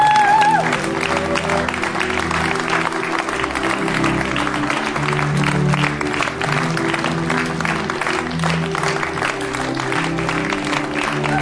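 An audience applauds steadily for about eleven seconds, a dense, crackling wash of many hands clapping at an even loudness, with a low droning tone running underneath.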